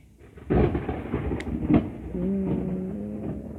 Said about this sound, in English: Ooh, thunder. Oh, Mother Nature is so rude. Doesn't she know I'm recording?